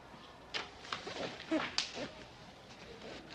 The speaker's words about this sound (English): You know what I'm gonna do? I'm gonna slap your face.